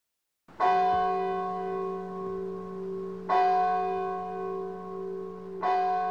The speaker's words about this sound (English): He hears the clock on the church near his house.